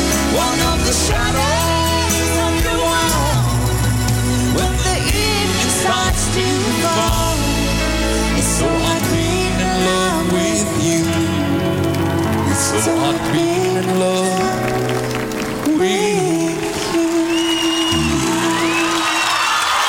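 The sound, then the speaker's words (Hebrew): A loud audience bursts into sustained applause after a song performance, a dense steady patter of clapping mixed with cheering and high whoops that carries on for the whole stretch. “כן, כן, כאלה מחיאות כפיים הם קיבלו, כי באמת הביצוע הזה יוצא דופן.”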